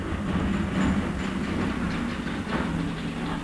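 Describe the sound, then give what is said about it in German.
A car rumbles past the house with a steady, heavy low drone and a rough mechanical clatter that holds at an even loudness throughout, with no voices. “Es rumpelt gerade ein Auto am Haus vorbei.”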